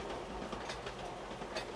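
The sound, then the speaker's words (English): Steady rumble of a moving train on rails, a continuous low roar with faint periodic clatter from the wheels, heard from inside a carriage with no one speaking. The train belongs to a children's railway run entirely by kids aged 10 to 14 and running since 1948. “Are you enjoying the train ride?”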